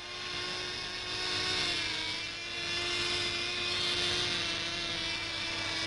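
Several small model aircraft engines drone and whine together in a steady high-pitched buzz during a team competition at an international model flying meeting in Basel in 1960, pitch wavering slightly as they circle, continuous for the whole stretch with no voices.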